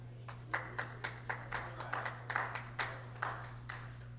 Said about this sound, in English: Thank you for those two applause.